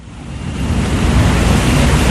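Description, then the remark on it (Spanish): Heavy water rushing and pouring steadily into the basins of a spring-water treatment plant in the hills about 40 minutes by car from Medellín, Colombia, a dense, continuous roar that swells slightly and stays loud throughout, with no voices. “Este ruido es el del agua que se vierte en las cuencas de la planta de tratamiento de aguas manantiales, una de las más importantes de Medellín y su región.”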